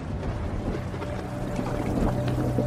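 Heavy rain pours into a hospital waiting room, filling it with water, in a steady, dense rush, splashing continuously over a low droning hum and swelling slightly louder toward the end, with no voices.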